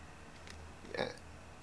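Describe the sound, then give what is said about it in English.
A single short, raspy puff, like a burping exhaust leak, made by a voice imitating the exhaust leak of a silver car with a cold start problem. It rises briefly out of a low background hum and fades quickly. “Exhaust leak.”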